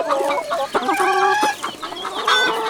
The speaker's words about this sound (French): Dans la basse-cour, chacun leur souhaite une bonne promenade. Leur papa, le coq, et aussi les autres poules.